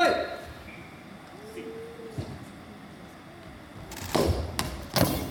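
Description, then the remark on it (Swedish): A hard shot from a Portuguese player strikes an FIF Malmö player's head with a sharp, dull thud near the end and goes into the goal, followed by another quick impact, set against a low steady rumble with faint indistinct voices, during a match against Sporting Club de Portugal. “Stenhårt portugisiskt skott träffar Jimmy Bergström i huvudet och går in.”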